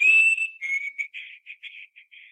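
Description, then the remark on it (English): A person whistles in imitation of a chickadee call: one long, clear high note followed by a quick string of about eight short, breathy notes, fairly loud with no talking. “And it was just dead quiet, and all of a sudden, it whistled like a chickadee. Just like this.”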